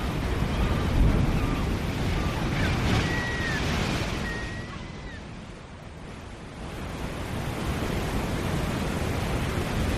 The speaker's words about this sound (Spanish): Esto es el océano Atlántico rompiendo en las rocas, el mar dialogando con la costa